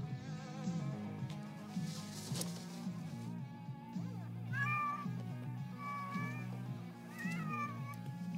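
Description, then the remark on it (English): A cat in a movie meows several times, drawn-out wavering cries clustered in the second half, heard over a steady low droning hum that runs throughout. “Also, movies like this never goes well for the cat.”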